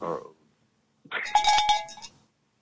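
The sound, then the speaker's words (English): A bell rings out with a few quick, bright metallic strikes close together, its clanging tone sustaining briefly before fading. A short murmur of sound comes just before it. “Oh, that's a fucking, man, that's a crow bell.”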